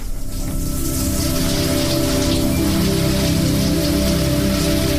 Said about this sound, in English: So I was away with plenty of time before getting to the studio for the show this morning, so I thought I'd have a nice, long, relaxing shower.